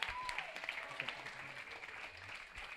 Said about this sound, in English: Round of applause.